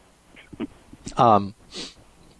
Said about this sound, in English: Excuse me, I'm coughing because I have something in my throat.